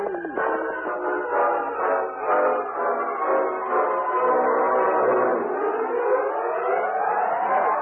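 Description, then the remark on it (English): A distant train whistle, heard at the small new depot in Silverton, blows one long, steady chord of several tones for about eight seconds, wavering slightly and bending upward toward the end, with no voices. “Suddenly, as the distant sound of a whistle was heard, they waved their hats and cheered loudly.”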